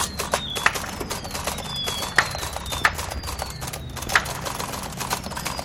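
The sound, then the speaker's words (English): Typing on a Remington Noiseless typewriter: a steady run of soft, muffled key clacks, with a few sharper strikes standing out and a faint high whine in the background. “This is the Remington Noiseless.”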